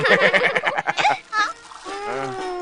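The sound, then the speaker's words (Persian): A bucket on a rope, thrown by scouts fetching water, splashes into river water with a burst of rapid, churning splashes, followed by brief high-pitched voices as the water settles. “وظیفه ما اینه که سطل رو داخل رودخونه بندازم، مثل گلوله تو.”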